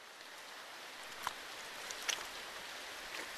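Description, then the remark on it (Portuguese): Steady, soft rain hisses evenly throughout at night, with a few sharper drips ticking out now and then. No voices are heard. “Veio depressa por causa da chuva.”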